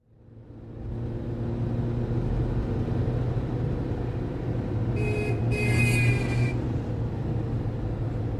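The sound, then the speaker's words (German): Idling cars in evening rush-hour traffic make a steady engine rumble with a low droning hum throughout. Partway through comes a brief, bright, high-pitched squeal, and no one speaks. “Sie blickt auf die Uhr, die mit der Frontscheibe verschmolzen ist, und dann wieder auf die Autos vor ihr, die sich im Feierabendverkehrschaos auflösen.”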